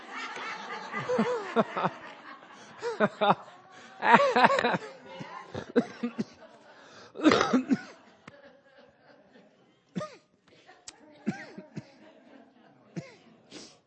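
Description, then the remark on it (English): Fairly loud fits of coughing that blur into snickering laughter, coming in several irregular bursts with quieter breathy vocal sounds and pauses between them. “I'm sorry, I'm not laughing, I'm coughing.”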